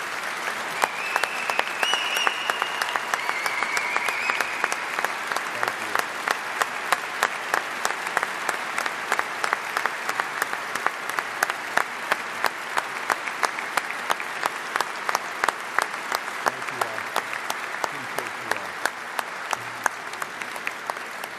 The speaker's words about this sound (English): I would like everybody in this room who is not a member of SFPD to give these brave men and women a round of applause and everybody in the audience.